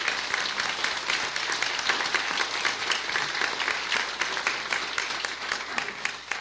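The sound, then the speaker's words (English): An audience at a How the Grinch Stole Christmas pageant gives a round of applause for two organizers, clapping steadily in a dense, sustained burst that holds at an even loudness for several seconds before starting to thin slightly at the end. “If you two could stand up, can we have a round of applause for them?”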